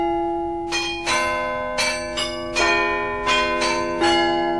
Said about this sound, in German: Glockenspiel am Rathaus in München. Der neugotische Bau am Marienplatz ist nicht nur eine Attraktion für viele Touristen, sondern er dient auch als Verwaltungsgebäude.